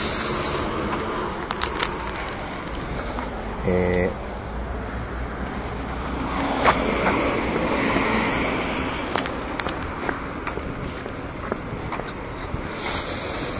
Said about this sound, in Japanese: ここ結構車の通りが多いですね。あ、ここダメだな。車が多すぎて音が、人通りは少ないんですけれどもね。あ、ちょっと車が途絶えましたね。